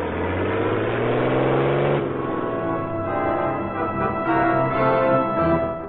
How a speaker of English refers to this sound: The next morning, at the moment Axford, Lenore Case, and Clicker Binney were boarding the Quicksilver, an armored truck drove away from the rear door of a large bank in Miami.